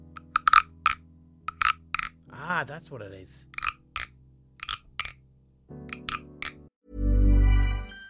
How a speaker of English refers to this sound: Ah, it's supposed to croak. It's a frog and you rub its back with this wooden thing and it sounds like croaking.